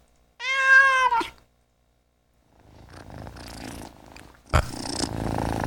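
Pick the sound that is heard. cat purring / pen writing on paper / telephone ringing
cat purring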